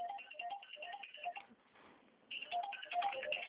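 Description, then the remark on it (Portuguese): A second telephone, right next to the speaker, ringing with an electronic ringtone, a quick run of bright, melodic beeps that pauses briefly and then starts again slightly louder. No one speaks over it. “Estou com outro telefone junto aqui, me atrapalhou.”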